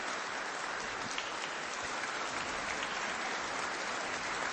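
A crowd applauds steadily, a dense, even wash of many hands clapping at a constant loudness for several seconds, with no voices standing out.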